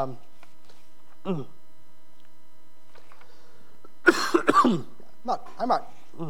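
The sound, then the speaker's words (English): A rough fit of coughing and throat clearing from a person with a throat cold breaks out midway, two or three harsh bursts, with short voiced throat noises before and after over a faint steady electrical hum. “I've had this throat cold all week.”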